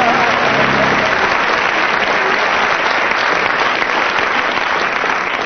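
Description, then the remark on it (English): Loud, sustained applause from an audience deciding the winner of a round of sung blues, a dense steady clatter of many hands clapping that holds at an even level for several seconds, with no voices standing out. “And from the audience's applause, you win that round”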